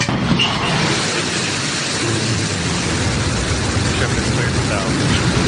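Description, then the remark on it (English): Blue Origin's New Shepard rocket blasting off at launch on its way to space with four passengers on board, including Wally Funk: a dense, rumbling roar that fills the whole range from deep bass to hiss, holding steady and loud without a break. “Blue Origin's New Shepard rocket blasting off on its way to space with 4 passengers on board.”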